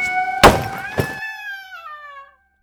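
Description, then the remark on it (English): A gallows trapdoor bangs open at a hanging with two heavy thuds about half a second apart, while a sustained creaking, ringing tone carries through and fades out after a couple of seconds. “The trapdoor fell open with a bang.”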